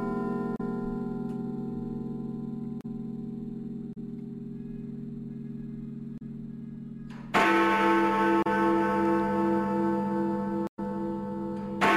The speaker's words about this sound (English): Yes, it's Big Ben. It is Big Ben. Okay, yeah. So that's just two. It's not 2 o'clock. It's going to be 3 o'clock. Okay, so... Big Ben is back. Big Ben's supposed to be out for a year and a half, isn't it? It's making a brief return.